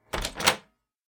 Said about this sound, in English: Imagine that you're going to take an interview in Japan.So, you knock on the door.